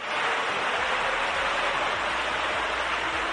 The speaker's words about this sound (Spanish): Así caía el agua por las escaleras y hasta que han podido solucionarlo ha sido en torno a las 11 de la mañana y la gente ha podido volver a coger el transporte y los vagones han vuelto a circular.